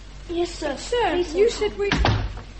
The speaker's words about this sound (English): The door opened again, and someone came in.